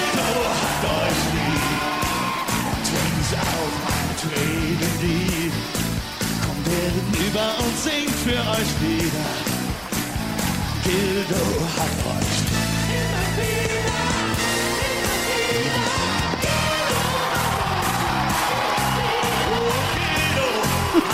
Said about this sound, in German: Also, wie die Leute schreien. Ja, weird Sitzveranstaltung anscheinend in dem Jahr noch. Die ersten Reihen sind so bestuhlt, aber der Saal kocht trotzdem.